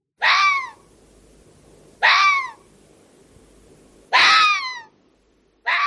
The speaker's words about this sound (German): Hast du etwas gehört? Wer ist da mit dir im Wald? War es eine Eule? Ein Fuchs?